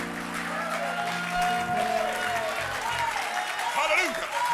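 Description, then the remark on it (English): A church audience claps steadily and loudly for several seconds to magnify the name of Jesus, the dense clatter of many hands mixed with scattered voices calling out and a sustained low tone underneath. “Somebody clap your hands and magnify the name of Jesus.”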